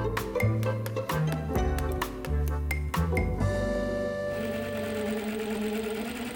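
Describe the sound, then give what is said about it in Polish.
A modern energy-saving electric motor runs with a rapid mechanical clatter of repeated clicks, then settles into a smooth, steady, quiet whirring hum. No voices are heard. “Pracuje. To prawda, to są nowoczesne silniki energooszczędne, więc to wszystko jest cichutkie.”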